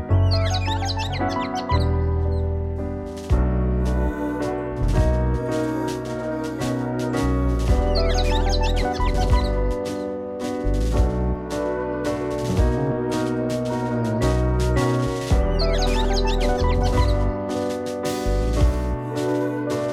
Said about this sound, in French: Les sons de la nature, c'était surtout les merles, les siffleurs des montagnes, les linicoles, les tourterelles, voilà, les colibris.